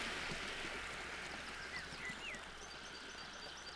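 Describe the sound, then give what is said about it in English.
A steady, soft rush of flowing river water on a very windy autumn day where children play by the river, with a few faint bird chirps and calls rising briefly above it. No one speaks. “The children play by the river.”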